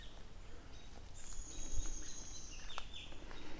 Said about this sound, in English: Birds freaking out everywhere.